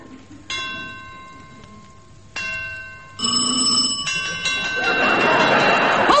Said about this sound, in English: I swore I'd get you at high noon, Sheriff, and it's high noon now. The church bell is just striking.